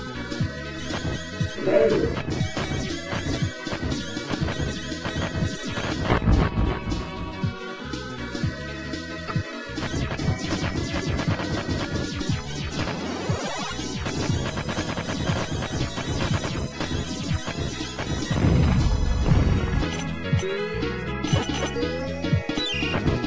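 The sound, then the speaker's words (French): Stereo video game explosions from a Super Famicom game boom out in repeated bursts over a dense, busy mix of game music and effects, with deep low rumbles around a couple of the blasts and no one talking. “Et même les explosions stéréophoniques sont de grande qualité.”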